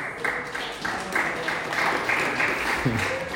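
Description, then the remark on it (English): A round of applause from a crowd for a newly engaged couple: dense, steady clapping that fills the whole few seconds at a moderate level, with a few scattered voices mixed in near the end. “Round of applause.”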